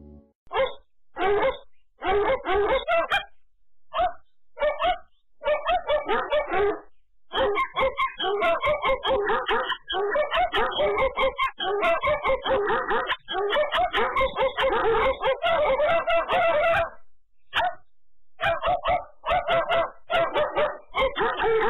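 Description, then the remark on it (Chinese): A small dog in a Pedigree (宝路) dog food advertisement barks excitedly, first in short separated yaps, then in a rapid, nearly continuous stream of yips with only brief pauses. “宝路狗粮让您的小狗快乐得不得了。”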